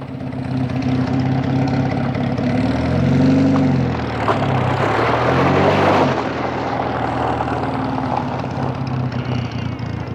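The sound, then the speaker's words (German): A propeller airplane engine drones steadily at night on an open field beside a farmhouse, its harmonic hum swelling and shifting in pitch midway as the revs rise and fall, with no voices over it. “Dann tauchte ein Flugzeug aus dem Dunkel, das auf dem freien Feld neben einem Bauernhaus gelandet war.”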